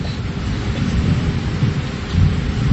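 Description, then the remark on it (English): Heavy rain starts pouring down in a steady, dense roar, with a deep rumbling low end like thunder, growing louder toward the end. No voices are heard. “It starts raining very seriously.”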